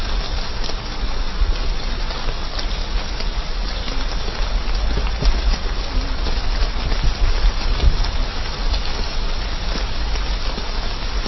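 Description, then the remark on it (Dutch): Steady rain falls outdoors at a graveside during a burial, a dense, even hiss of drops with a low rumbling undertone, continuous throughout with no voices. “we laten ons niet door de regen hinderen om even een ogenblik hier stil te staan bij het moeilijke moment wat je mee moet maken.”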